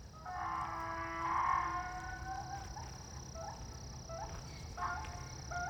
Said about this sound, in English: Okay, that just kind of scared me. There's a donkey literally neighing in the darkness. Okay, we're cool. I like to record these things outside next to this beautiful lake where I'm walking. And I just never heard that donkey go off.